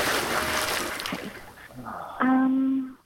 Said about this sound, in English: Then leapt back into the water.